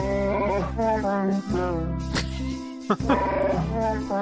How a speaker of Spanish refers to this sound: Sí, sí, Chihuahua cantando Noche de Paz.